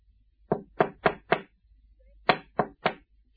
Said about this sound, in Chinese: 这阵夜深人静，就快11点，有人敲他的窗户。